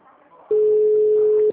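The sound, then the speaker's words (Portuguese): A loud, steady telephone busy tone sounds on a phone after a dropped call, a single unwavering mid-pitched beep lasting about one second that cuts off abruptly, with faint murmuring voices before and beneath it. “Caiu.”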